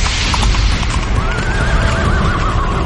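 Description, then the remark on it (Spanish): A horse whinnies with a long, wavering neigh over a dense, noisy background, while hooves clop steadily throughout. “Y el cuarto viene en caballo negro.”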